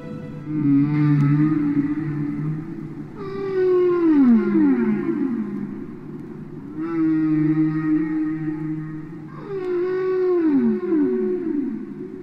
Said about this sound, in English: That iconic recording is off the vinyl album ….